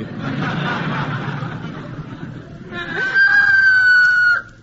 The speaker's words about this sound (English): How come that rooster's crowing at this time of day, Wally? He was out half the night with an old hen.